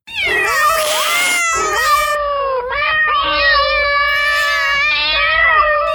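A dense chorus of many cats in an apartment meowing and caterwauling at once, loud, with overlapping wavering yowls that run continuously without a break, heard without a microphone filter.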